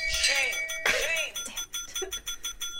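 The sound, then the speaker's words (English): A bright quiz buzzer bell, hit during a multiple-choice trivia game, rings twice in quick succession, its shimmering metallic tone ringing on and slowly fading over the next couple of seconds. “No, I like heard a bell and then I heard that thing and I was like...”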